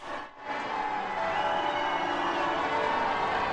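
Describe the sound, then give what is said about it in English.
A dense, steady wash of crowd noise and cheering from thousands of well-wishers fills the scene at the royal wedding of Prince William and Kate Middleton at Westminster Abbey, London, with sustained ringing tones of church bells layered over it throughout, loud and continuous after a brief dip at the start. “And the bells.”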